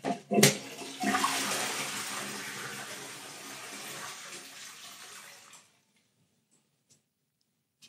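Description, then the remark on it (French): A toilet flush in a hotel room bathroom: a sharp click of the lever, then a loud rush of water that gradually thins and stops after about five seconds, leaving near silence with a couple of faint ticks. “Voilà notamment la chasse d'eau.”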